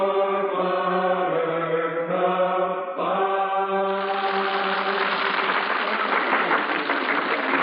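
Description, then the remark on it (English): Sustained musical chords ring for a few seconds, then a large audience breaks into steady, dense applause for a Gilbert and Sullivan opera that holds loud and continuous until the end. “Listen to that applause. Very sweet music, applause.”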